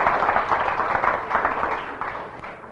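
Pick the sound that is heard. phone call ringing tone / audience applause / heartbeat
audience applause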